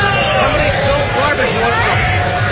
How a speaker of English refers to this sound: It's so loud. Yeah, it's ridiculously loud. Maybe we could... All right, they turned down the crowd noise a little bit.